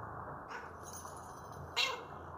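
cat meowing

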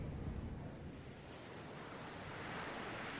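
ocean waves

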